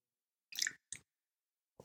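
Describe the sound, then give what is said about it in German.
Close-up wet slurping and a gulp from someone taking a sip of water right by the microphone, a few short squishy bursts separated by silence. “Normaler Mensch, ich trinke jetzt mal eben einen Schluck. Ich komme mal extra näher ans Mikrofon.”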